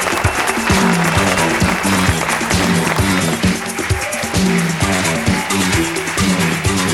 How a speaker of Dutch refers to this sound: Daar komt hij aan! Even een aanmoedigend applausje. Zeer sportief publiek in Zundert.